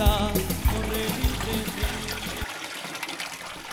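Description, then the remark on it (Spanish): Steady rushing of flowing river water, continuous, with music playing over it for the first few seconds before the water continues alone. “Este río hace unos 20 años era rico, tenía una abundancia de agua inmensa, lo cual ha bajado un nivel bastante.”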